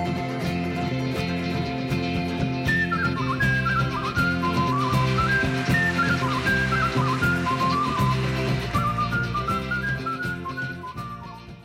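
A bright whistled melody glides and trills over a full band accompaniment with steady rhythmic backing, loud and continuous, with no one talking.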